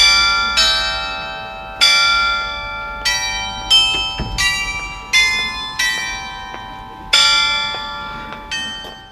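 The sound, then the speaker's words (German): A set of glockenspiel bells on the market square in Goslar, showing scenes of mining history, chimes a slow melody, about one ringing strike per second, each tone bright and lingering as it decays, heard clearly with no talking. “Das Glockenspieler Markt zeigt Bergbaugeschichte.”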